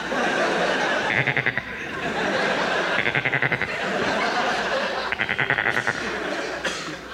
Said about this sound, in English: Hello, goat.